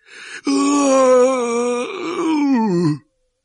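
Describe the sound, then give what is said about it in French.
A voice imitates Hagrid letting out a long howl like a wounded dog: a sharp intake of breath, then one long, loud, sustained wail that holds steady before sliding downward in pitch and cutting off. “Puis, soudain, Hagrid laissa échapper un long hurlement de chien blessé.”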